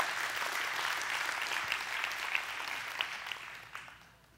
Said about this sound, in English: That was a golf clap, I want you to know. Okay? That was very polite. But if you're going to clap, you're going to clap. Okay? Let's not just do it halfway.